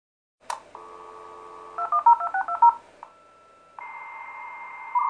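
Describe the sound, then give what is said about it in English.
A dial-up modem connecting to the internet clicks, holds a steady dial tone, then rapidly dials a string of touch tones before shifting into sustained connection tones and rising handshake noise. “Don't tell me you're still using a dial-up connection.”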